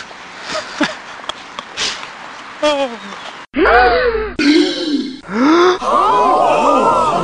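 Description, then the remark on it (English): A run of gasps from several different voices, short breathy intakes at first, then louder voiced gasps spliced one after another, fairly loud. “You may well gasp, but this will always be a news nugget.”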